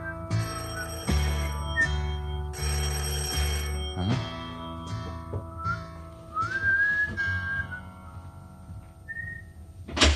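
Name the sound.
doorbell ringing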